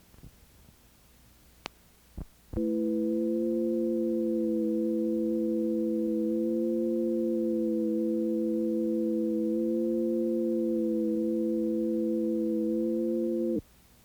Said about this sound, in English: The lambda-ma ratios, which create harmony in sound intervals, provide us with one of the most effective means of invoking harmony on the physical plane. An interval chord for healthy blood.